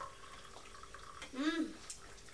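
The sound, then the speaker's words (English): A short, gurgling pour of hot lemon tea from a teapot into a mug lasts about half a second, its pitch rising as the mug fills. “Pouring the tea from the teapot into the cup.”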